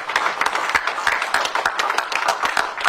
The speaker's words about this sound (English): Coming out of their meeting, arm in arm, to a round of applause.